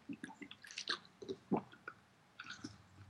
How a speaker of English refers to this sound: Okay, took a quick water break there.